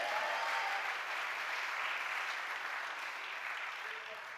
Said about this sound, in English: Everybody clap your hands and shout yes to the Lord.